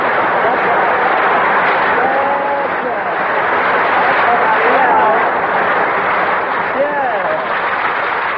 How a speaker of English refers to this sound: Okay, folks, the show may be flopping, but now Harris is here to start things popping, so shower me with that sun-kissed applause.